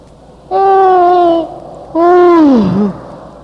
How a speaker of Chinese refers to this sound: 反复进行往上擦深吸气，又到处真正的哈欠来，真正打哈欠发出声音，发得越痛快越好。